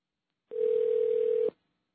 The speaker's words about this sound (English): All right, we have to get out of this crazy dial tone first, though.